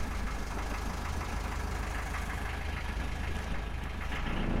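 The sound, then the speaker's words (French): A sailboat's engine runs steadily as the boat leaves the port of Martigues, started at 15:00 on Thursday 12 December 2019, a continuous low, chugging rumble with a slight knocking rhythm that holds even throughout, with no voices. “Départ de Martigues, start moteur 15h”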